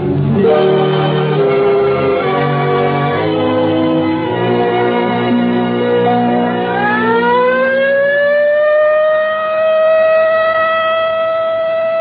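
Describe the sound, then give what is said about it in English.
After a few seconds of stepped, droning tones, a civil defense practice alert siren winds up in pitch and settles into a loud, steady, sustained wail with no voices. “There it is, the practice alert.”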